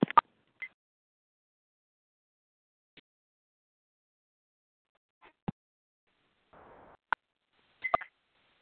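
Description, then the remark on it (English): Short electronic phone keypad tones, as star 1 is pressed to mute the line on a group phone call, sound at irregular intervals, some paired with sharp clicks and a brief hiss, fairly quiet, with no one talking. “If we could all please check our phones now, star 1.”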